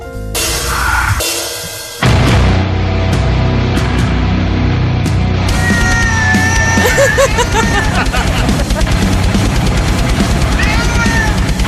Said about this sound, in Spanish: Ese gato no canta, está gritando. ¿Pero qué le hacen para que cante así? Que lo salven, pobre. Que cumple muy bien, que eso es lo que hacen los cantantes de muchos grupos heavy, ¿no?